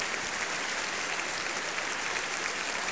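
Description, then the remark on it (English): Sustained applause for the soloists and chorus, with members of the Chicago Symphony Orchestra applauding, fills a large concert hall: a dense, steady wash of many hands clapping at once with no voices standing out, continuing evenly from start to finish. “Members of the Chicago Symphony still applauding the soloists and the chorus.”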